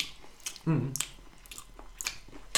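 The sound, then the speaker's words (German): Wet lip-smacking and mushy chewing of buttery sweet potato mash, a handful of sharp smacks spaced irregularly, with a brief low voiced murmur partway through. “Übrigens, wo gerade diese Essgeräusche machen.”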